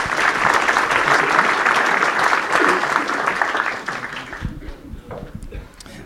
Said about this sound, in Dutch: Nou, applaus voor alle bekers en een mooie dag.